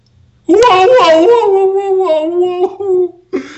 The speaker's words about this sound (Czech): Vyl pes bolestí, pustil ležícího pachatele a kulhavě utekl pryč hodně daleko od toho, kdo mu způsobil bolest.